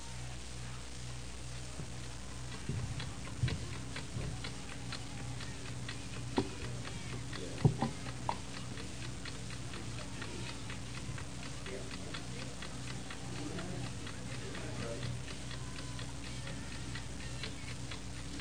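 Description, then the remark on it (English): A clock ticks in a steady, even rhythm, fairly soft, over a low background hum, with a few brief louder knocks partway through. “You hear the tickings of this clock?”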